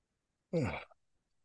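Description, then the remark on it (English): A short yawn from one person, a breathy voiced exhalation with a falling pitch that lasts under half a second before quiet returns. “And my yawning is not about fatigue, it's about energy moving.”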